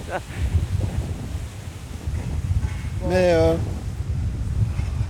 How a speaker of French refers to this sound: Il y a un grand vent, c'est oui, hyper connu ici. Hein. C'est ça ? Ouais, c'est hyper connu.